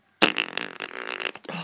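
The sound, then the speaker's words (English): A loud, wet, sputtering raspberry blown against a belly buzzes for just over a second, breaks off briefly, then a shorter second burst follows. No voices. “I'm blowing bubbles on your belly.”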